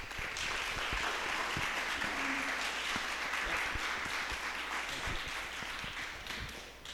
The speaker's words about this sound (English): I mean, round of applause.